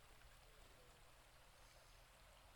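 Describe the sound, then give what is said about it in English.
Water from a desert spring flows steadily in a continuous, even rush with a soft hiss, quiet and unbroken throughout, with no voices. “As you can imagine, water sources like these are not common in the desert.”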